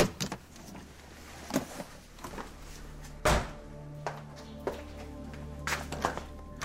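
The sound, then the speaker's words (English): Someone tries a locked door: a handle jiggles and rattles in a series of sharp clunks, with one heavy thud midway, over a low steady hum, no voices. “What in the world she locked the door for?”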